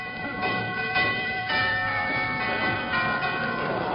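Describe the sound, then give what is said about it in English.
A doorbell chimes, ringing out a series of sustained, bright tones that overlap and linger for several seconds, with no one speaking. “I'll ring the doorbell.”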